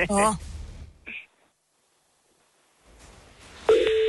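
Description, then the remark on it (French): A telephone ringing tone sounds during a phone call in short electronic bursts, with a long silent pause between them before a steady tone returns near the end, faint background noise underneath. “Ah, sonnerie était fatiguée.”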